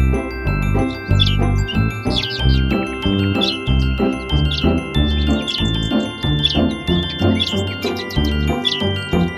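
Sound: music playing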